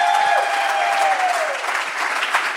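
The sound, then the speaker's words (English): A crowd at Cornerstone Church in Atlanta applauds loudly and steadily for the whole stretch, dense clapping with no break, while a shrill whistle slides downward in pitch during the first second and a half. “So can we give it up for Cornerstone Church?”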